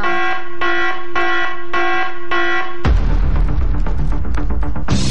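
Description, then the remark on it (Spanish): A loud electronic alarm in a letter-guessing game blares in five quick, evenly spaced pulses, then cuts into a dense, noisy burst of sound with no voices present. “nuestra misión es dar las letras y la misión de ustedes es escuchar Punto 7, estar atentos, atentas a cuando suene la alarma.”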